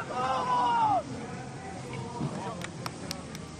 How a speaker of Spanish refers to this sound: Son los aplausos, los gritos, vamos. Ahora correspondiendo, como digo, a esa grada española, capitaneada por Alejandro Blanco, el presidente del Comité Olímpico Español, con el apoyo de algunos miembros.